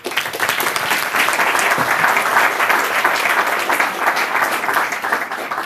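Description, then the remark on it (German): Sustained applause from an audience at an evening event, welcoming its two hosts: a dense wash of many hands clapping at steady loudness for several seconds, with no voices standing out. “bitte einen großen Applaus für die beiden.”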